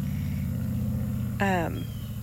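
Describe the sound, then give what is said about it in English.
A car passes on the road, its engine a steady low rumble throughout, with a short harmonic, horn-like tone cutting in about two-thirds of the way through. “And excuse the car going down the road.”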